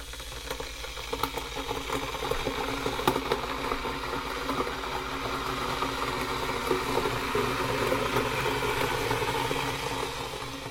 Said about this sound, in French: La bouilloire. Faut mettre de l'eau.